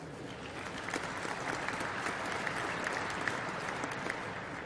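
A crowd at a Siemens event claps steadily after a speaker welcomes guests, a dense wash of many overlapping hand claps at an even, moderate volume for several seconds, with no voices standing out.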